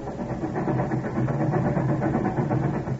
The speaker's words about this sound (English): The year was 1896. We'd been married almost 5 hours, Nellie and I. We were on a train now, going to Chicago. It was night, raining.